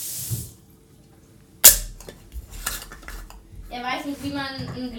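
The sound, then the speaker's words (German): Someone struggles to twist open a screw-cap glass jar: a sharp glassy knock, then scraping and clinking as the lid is worked, with a voice briefly audible near the end. “Aber jetzt habe ich nur diesen Schraubverschluss und das Ding ist immer noch zu.”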